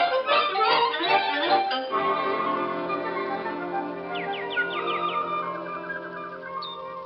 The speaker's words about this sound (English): listen to that bird. Oh, it's beautiful. You know, dear, there's something wonderful about a bird.